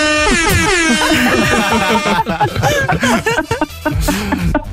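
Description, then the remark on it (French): A loud, sustained car horn blares for about two seconds, then gives way to chuckling and lively voices talking over one another up close. “Ah mais, c'est-à-dire que j'ai peur de te demander comment est ton klaxon parce que j'ai peur que ça fasse...”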